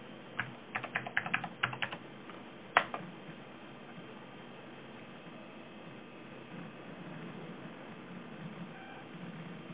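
A quick burst of typing on a computer keyboard as a host name is entered, a dozen or so crisp key clicks over about three seconds, then the keys stop and only a steady low background hum remains.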